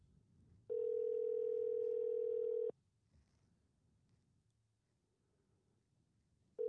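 A phone ringback tone plays through a speaker: one loud, steady two-second buzz, a pause of about four seconds, then the next ring begins. No one talks.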